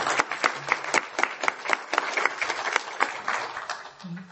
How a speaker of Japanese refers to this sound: Round of applause for the three speakers we have had.